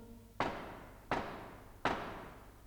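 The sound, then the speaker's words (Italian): Three firm knocks on a door, evenly spaced about three-quarters of a second apart, each a sharp hit with a short ringing decay, over a faint low hum and no voices. “Zitti che bussano!”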